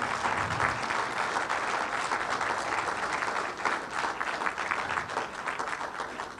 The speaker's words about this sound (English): And they deserve a special round of applause